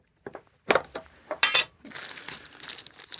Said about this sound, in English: Can I open? I got to rip this open. It's a plastic bag.